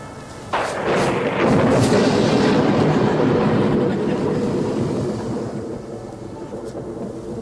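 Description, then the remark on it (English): A sudden loud crack of thunder from a lightning strike breaks out, then rolls on as a heavy, booming rumble that slowly fades over several seconds, with no talking over it. “lightning. That was coincidence, right?”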